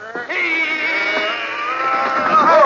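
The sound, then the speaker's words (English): A truck engine runs loud with a steady, droning hum that holds its pitch for a few seconds, its tone wavering slightly near the end, beside a railway car into which a crate has just been loaded. “Okay, you can take that truck away from there now.”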